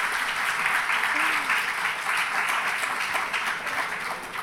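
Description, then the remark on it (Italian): Steady audience applause, a dense wash of many hands clapping at once, sustained and fairly loud throughout before easing slightly at the end. “l'applauso che vi chiedo non è per interrompere, ma per dire grazie alle due blog.”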